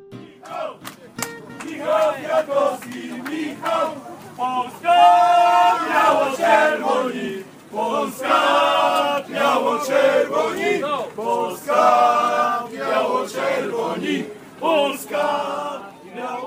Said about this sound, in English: The noise that you heard there at the start of this section, however, was the noise of some Polish people singing for their man, Mikhail Kwiatkowski,